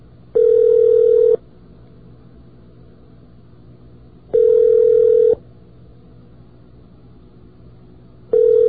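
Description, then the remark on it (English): A phone line rings back as WUSB Radio calls a room on campus late at night for a live on-air poll. Steady, buzzy tones, each burst lasting about a second with roughly three seconds of quiet hiss between, three rings in all and nobody speaking. “Besides, the new phones have such a soothing ring.”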